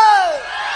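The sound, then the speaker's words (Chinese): A brief, loud burst of crowd screaming and whooping as a crowd answers a host asking to hear them scream, with one high voice sliding downward over a dense wash of cheering that fades slightly. “来，让我听听你的尖叫是吧”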